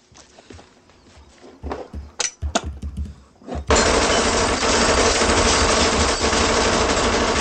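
A few sharp clicks and metallic knocks, then a micro Uzi submachine gun opens up in a loud, sustained fully automatic burst, the rapid shots blurring into a continuous harsh roar.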